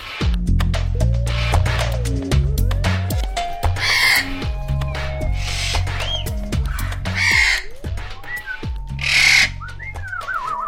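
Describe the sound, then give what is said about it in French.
Eclectus parrots squawk in loud, harsh bursts, mixed with shorter whistled calls and chatter, over a steady low background hum. “On va aller voir, là, on a les éclectus.”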